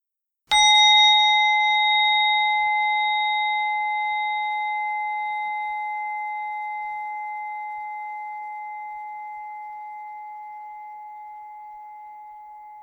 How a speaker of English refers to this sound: And when you're ready, if your eyes are closed, allowing them to open and allowing the bell to bring you back to clock time.